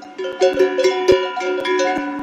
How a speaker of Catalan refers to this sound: Aquest és el soroll que fan les esquelles, la campana que es col·loca al coll de les vaques per saber on són en cada moment i evitar que s'escapi.